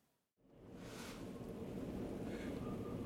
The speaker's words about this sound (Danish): Jeg ved ikke, om I kan høre det, men vinden den pifter altså omkring den her bil. Det blæser en halv pelikan.